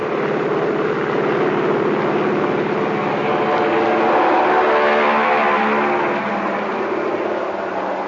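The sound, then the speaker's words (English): A Navy propeller plane's engine roars loudly and steadily on a ship's deck, swelling to a peak midway as the pilot revs the motors for takeoff after the plane dispatcher signals down the deck, then its droning pitch slides lower as the aircraft pulls away. “The pilot revs up his motors. Fly One points down the deck, and the plane is off.”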